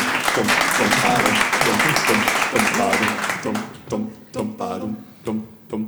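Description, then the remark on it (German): A burst of crowd applause fills the first few seconds, thinning and fading out as a single voice begins talking in short phrases. “Kleinen Applaus vielleicht für die.”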